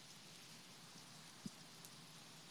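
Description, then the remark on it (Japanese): Steady heavy rain, growing stronger, hisses without a break, a dense, even wash of falling water with one sharper drip or tap partway through. No voices, just the continuous patter. “あ、やべ、雨強くなってきた。”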